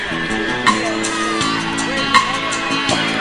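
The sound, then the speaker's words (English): A crowd applauds and cheers for the Hartsfield Elementary School Choir in a steady, loud wash of sound, with a few sharp whoops standing out above the clapping. “About a nice round of applause for the Hartsfield Elementary School Choir.”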